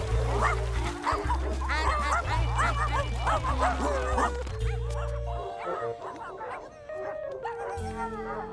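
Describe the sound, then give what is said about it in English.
A pack of dogs barks and yips excitedly while playing, many short overlapping yaps packed closely together, loud and busy, with steady background music running underneath. “Wow, just look at how much fun all the dogs are having.”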